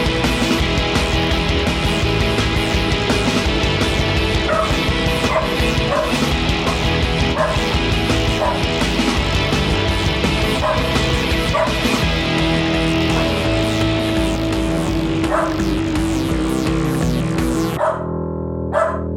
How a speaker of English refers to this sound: I'm gonna go shut up my dog. I'll be right back. We'll just start the intro. Chloe Bananas. Does she need to go outside? Come here. Come on. Get over here and lay down and be quiet.